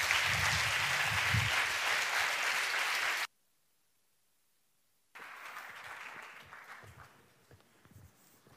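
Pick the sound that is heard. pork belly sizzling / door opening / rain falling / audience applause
audience applause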